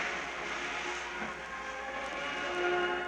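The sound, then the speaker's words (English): The royal funeral train rumbles steadily at low speed as it slowly pulls out of Paddington Station in winter sunshine, a continuous broad hiss and clatter with faint tonal squeals from the wheels or brakes, moderately loud, with no voices. “Every man here standing facing this train at the salute as slowly it passes from Paddington Station.”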